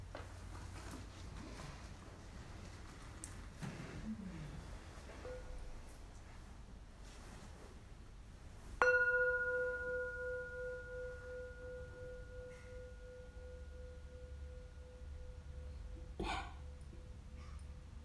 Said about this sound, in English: We'll listen to a sound of the bell.